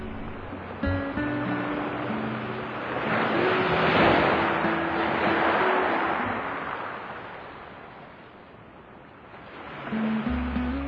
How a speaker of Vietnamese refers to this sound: Ngày hè nóng bức, tôi mang sóng biển về cho bạn đây. Bạn hãy đi thong thả trên bãi cát trắng và gió lộng, rồi đợi tôi lên tiếng.